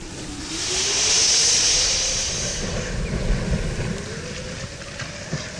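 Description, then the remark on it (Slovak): A campfire hisses sharply as it is doused, a loud steamy rush that swells over about two seconds, then fades into a low, crackling rumble with no voices. “Počuli ste, ako zlostne zasičal?”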